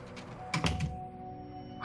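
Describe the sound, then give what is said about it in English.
A door is pushed shut with a quick cluster of dull thumps and a slight rattle, then a quiet hum before a brief rising noise at the very end. No one speaks. “Could you shut the door on your way out, please?”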